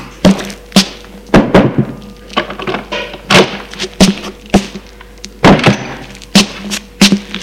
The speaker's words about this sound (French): Et monte à la chambre. Frappe à la porte et entre.